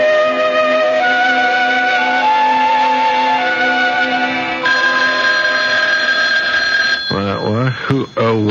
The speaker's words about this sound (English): It's not the alarm this time, darling. It's the phone dummy. Here, I'll get it.